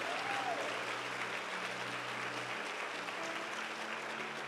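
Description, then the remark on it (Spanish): A church audience breaks into sustained applause for the Lord, a dense, steady wash of clapping that holds at full strength for several seconds, with a faint tonal hum beneath it and no talking. “No, si le va a dar un aplauso al Señor, dérselo de verdad.”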